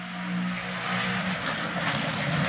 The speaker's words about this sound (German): Ja, das ist doch auch mal schön. Podcast garniert mit rennenfahrenden GT3-Autos.